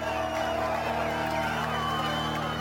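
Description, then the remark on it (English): A dense crowd of men, women and children cheers and shouts in the streets of Rafah at news that Hamas accepted a ceasefire deal; many overlapping voices form a steady, loud roar that never lets up, with scattered whoops rising above the din. “as people there found out, they started to cheer and shout in the streets.”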